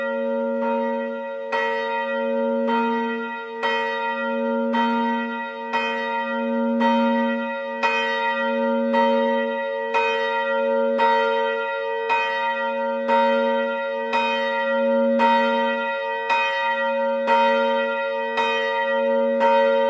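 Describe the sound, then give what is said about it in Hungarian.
A single 405 kg church bell tuned to B, the new middle bell of the Catholic church in Erdőbénye in the Zemplén region near Tokaj, tolls steadily, striking about every second with a bright attack and a rich, humming ring that sustains between strikes. It is loud and heard alone, with no talking. “az Erdőbényei katolikus templomnak az általa döntött új harangját, ami a templomnak a középső harang és 405 kilós B hangú, ahogy ezt említetted is.”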